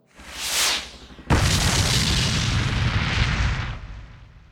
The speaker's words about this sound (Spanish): La explosión me tomó totalmente por sorpresa. Nunca supe y nunca sabré quién nos lanzó el maldito misil. Ni desde dónde, pero fue un escopetazo brutal, por babor, que nos llenó de agujeros con gran conmoción.